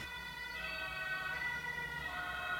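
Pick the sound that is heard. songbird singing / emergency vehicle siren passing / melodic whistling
emergency vehicle siren passing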